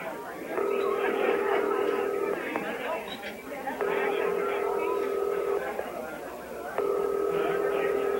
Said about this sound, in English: Rucker telephones from the reception.